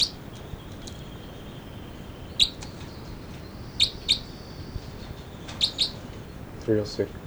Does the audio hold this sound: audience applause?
no